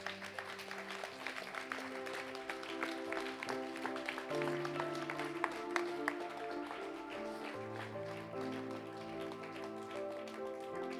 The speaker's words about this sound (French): Est-ce qu'on peut applaudir ce que le Seigneur fait?